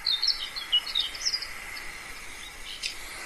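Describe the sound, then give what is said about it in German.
Sand martin song played from a phone: rapid, scratchy high twittering chirps in quick bursts, fairly faint over a steady hiss, with no one speaking. “Die Uferschwalbe, ne? Mit dem Gesang, ja, das wollen wir ja uns ja auch mal anhören hier.”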